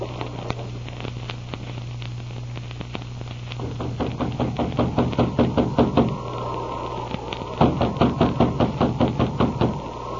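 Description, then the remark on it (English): Someone knocks on a door again and again in quick, firm bursts, pausing briefly between rounds, with a low steady hum underneath and no voices. “Let's try the door. It's unlocked. Nobody's here.”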